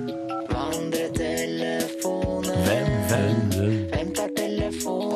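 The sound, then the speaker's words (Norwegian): A short musical jingle plays loud: bright melodic tones over a steady beat of punchy percussion hits, with no one talking over it. “Men frem til da, så tar vi og begravelegger den med denne vignetten.”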